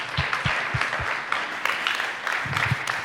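An audience applauds steadily as a speaker is welcomed to join the host on the stage, many hands clapping in a dense, even patter with a few sharper individual claps standing out, sustained at a moderate level throughout without anyone speaking.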